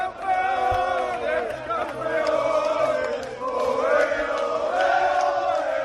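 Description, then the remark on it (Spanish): A large stadium crowd of Granada and Las Palmas football fans celebrating promotion to Spain's Primera division chants and sings together loudly and continuously, a festive roar of many voices swelling and dipping in waves throughout. Granada had won the Segunda title by beating Leganés 2-0. “Así sonaba la fiesta de ambos.”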